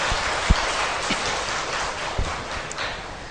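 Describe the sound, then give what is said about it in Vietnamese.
A steady wash of clapping in praise from an audience gathered to hear a dharma talk at Quan Âm monastery fills the whole stretch, dense and even, with a few sharper claps standing out now and then; no one speaks. “Quý vị cho chàng pháo tay tán thán.”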